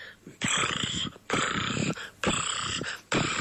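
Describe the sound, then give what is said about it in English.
A person imitates their new cat sitting on dad's lap, sent as a WhatsApp message, with loud, rough, rasping purr-like noises, in four long bursts separated by brief pauses, with no other talking. “My impersonation of our new cat sitting on dad's lap.”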